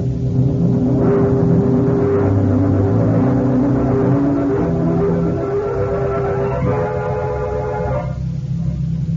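A car engine drones steadily throughout, its pitch climbing in several long rising sweeps as it accelerates, then settling into a lower, even hum near the end. No one speaks.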